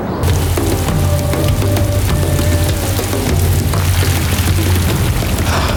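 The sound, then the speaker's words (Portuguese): A sudden late-spring rain shower pours steadily, a dense continuous hiss of drops with a low rumbling drone underneath the whole time, and no voices. “O aguaceiro passa tão rapidamente quanto chega, mas por um curto período, a terra fica refrescada.”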